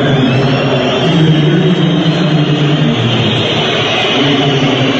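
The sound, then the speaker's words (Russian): A loud, steady wash of stadium crowd noise from Turkish fans at a stadium in Turkey, massed whistling during a minute of silence for those killed in Paris, dense and unbroken for the whole stretch without any pause or quiet moment. “Стадион весь раздражается свистом, а не против.”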